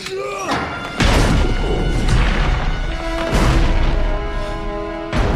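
The bolted heavy door of a building takes repeated hard blows, about three or four loud booming thuds at uneven intervals, with rattling and a low resonant ringing lingering between the hits.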